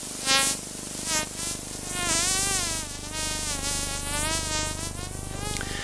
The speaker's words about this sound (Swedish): Tumlarens klickljud som har saktats ner för att vi ska kunna höra det.